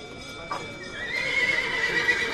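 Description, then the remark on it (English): Sales begin at the Mercado de Liniers in Buenos Aires, Argentina's biggest cattle auction. A high, sustained ringing tone cuts in over a noisy yard of bidding buyers and an auctioneer, with cattle calls and hoof sounds from some 10,000 animals in the stalls. “The start of sales at Argentina's biggest cattle auction, the Mercado de Liniers.”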